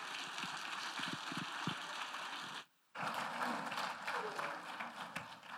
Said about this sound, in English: Would you just clap for them as they went?